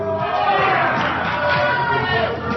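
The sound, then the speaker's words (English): A large crowd of Republicans boos loudly and steadily, a dense, continuous roar of many voices that holds its level for the whole couple of seconds without a break. “Yeah, being booed by Republicans.”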